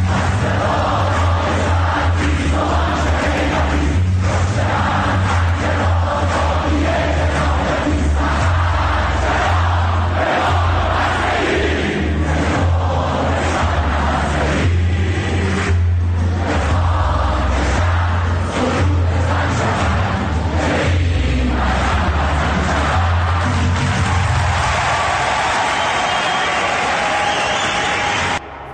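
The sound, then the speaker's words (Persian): A large protest crowd at Sharif University chants loudly in unison, repeating rhythmic slogans without pause for about half a minute, with a steady low rumble running underneath the voices. “شنیدید تو شریف چی میخوندن؟”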